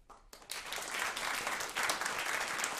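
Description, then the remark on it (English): A short burst of applause from three guests on a stage, starting abruptly after a brief quiet moment and holding steady as dense, bright clapping with no voices. “Our three guests on the stage applauded for them.”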